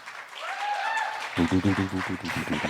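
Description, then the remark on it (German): An audience applauds steadily as an applause vote on whether to host Aktenzeichen XY or Wetten, dass..? again, with whistles rising over the clapping early on, then rhythmic, voiced cheering or chanting pulsing through the noise in the second half. “Euer Applaus für, würdet ihr wieder Aktenzeichen Y oder Wetten, das moderieren?”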